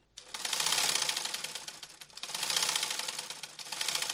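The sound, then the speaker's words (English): A sewing machine worked by a Cameroonian woman in a United Nations training program runs in three rapid, clattering bursts with brief pauses between them, steady in loudness, with no one speaking. “Just by Naomi's carpentry workshop, Therese Mami works on a sewing machine.”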